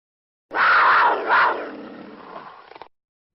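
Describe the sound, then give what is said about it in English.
A loud, raspy mountain lion roar swells twice in quick succession, then trails off into a rough, fading growl over about two seconds, with no other sounds around it. “I do want to get a shout out to Mountain Lion. Donnie, please run my sound.”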